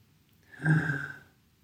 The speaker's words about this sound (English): So now you're going to breathe into the sides of the belly rather than the front. So breathing in.